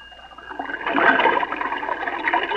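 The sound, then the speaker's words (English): A steady rush of water spouted by a fire engine to put out a fire swells and gushes for a couple of seconds, a hissy, splashing spout that stays fairly loud throughout with no voices. “Then I spouted water.”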